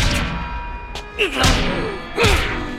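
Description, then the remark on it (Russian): Old man Zeppeli's fists pound on a thick door in a few heavy, irregular thuds, so hard that his fists break, loud, with a couple of blows landing in quick succession over a steady low background hum. “Этот дядька аж разбил кулаки, колотя по двери!”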